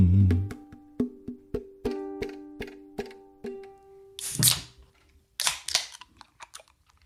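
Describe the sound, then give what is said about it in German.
A beer can is opened: a run of about ten evenly spaced metallic ticks with a faint ring, then a sharp crack and fizzing hiss, followed by a second burst of hiss. “Wir haben schon lange nicht mehr mit so einem plumpen Bierdosenöffner angefangen.”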